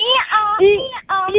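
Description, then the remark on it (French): A mother and her young child imitate a donkey's hee-haw together as part of a game to win chocolates, a loud voiced bray swinging between higher and lower pitches in several quick segments, with a short break before the last one. “Alors, est-ce que tu sais faire le bruit de l'âne?”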